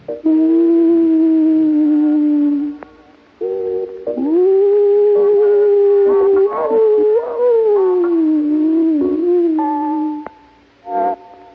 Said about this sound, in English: And from the far-off hill, on the horizon that stretches all the way to the gray sky, occasionally is heard the keening of a hunting wolf.